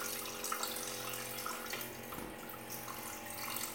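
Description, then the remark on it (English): Water pours steadily into a glass electric tea kettle being filled to boil water, a continuous splashing rush with a hollow, filling quality, fairly loud throughout without any talking. “I have an electric tea kettle, it's glass. And I'm just going to fill it up with some water.”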